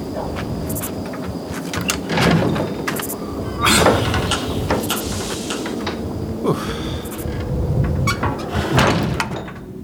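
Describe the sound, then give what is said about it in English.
A heavy door grinds and scrapes open in a series of rough, clattering bursts, with a sustained low rumble beneath and a faint high whine running through. “Okay, the door here is pretty heavy, so hold on a second.”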